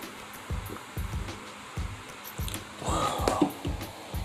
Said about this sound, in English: But yeah, I'll take a sip of this water.